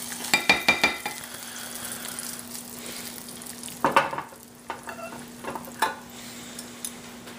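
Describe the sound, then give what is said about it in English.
Thick dokra batter being stirred in a bowl, with soft wet slapping and scraping, punctuated by a few sharp clinks of a utensil against the bowl's rim. No one speaks. “And we're going to, once our mixture is done or our water is done, we're just going to mix that and we're going to add that to our dokra mixture here.”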